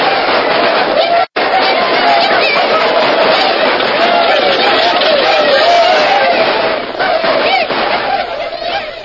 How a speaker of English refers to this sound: overnight, the peaceful settlement of Mariposa was changed to a surging, roaring boom camp.